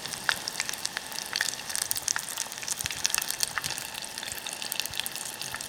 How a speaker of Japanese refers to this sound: 冷めたタコをぶつ切りにして、天ぷらと水を合わせた衣にくぐらせます。180度に熱した油でさっと揚げてください。じっくりと揚げると、せっかく柔らかく煮たタコが固くなってしまいますよ。高温でさっと表面がカリッとなるように揚げましょう。